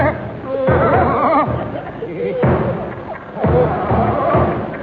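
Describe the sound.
A drum is banged by a military man walking up the line, booming in heavy, irregularly spaced, loud beats, while a murmur of voices and background commotion carries on underneath.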